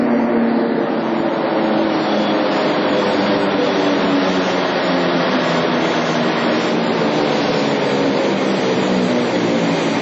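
A Beovoz Belgrade commuter train pulls into a platform at the brightly lit Prokop, the future Beograd Centar railway station in Serbia, its steady, loud mechanical rumble and droning hum filling the whole stretch, with no voices heard.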